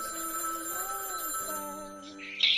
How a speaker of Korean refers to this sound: 전화가 울리는 거예요. 집에 전화성 소리가 울리는 거예요.